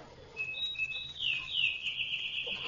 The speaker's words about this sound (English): And that bird. Robin or sparrow or whatever he is. What's a bird doing here in November? Off to Palm Beach, bird.